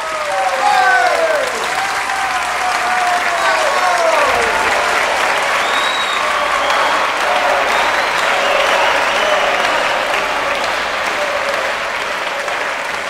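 A large crowd applauds loudly and steadily throughout, with rising whoops and cheers ringing out over the clapping near the start before the ovation carries on at full strength.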